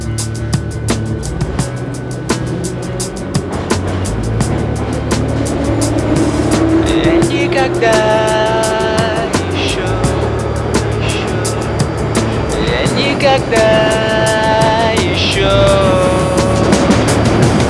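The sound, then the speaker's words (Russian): A metro train pulls away from Kantemirovskaya station, its loud rumble joined by a whining electric motor tone that climbs in pitch, rising again as it gathers speed. “Я еще не выходил на этой станции метро, хотя меня где только не катал подземного локомотива Крот.”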